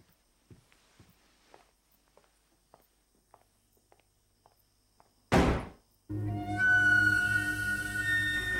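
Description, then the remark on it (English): Soft, evenly spaced footsteps for several seconds as a man walks out, then a woman slams the door after him with a single loud slam, followed at once by a sustained droning tone with layered pitches. “He scowls menacingly at her as he walks out, and she slams the door after him.”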